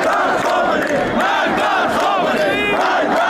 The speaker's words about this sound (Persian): شعارهای علیه ولایت فقیه و آیت الله علی خامنه ای رهبر جمهوری اسلامی فریاد زده شد.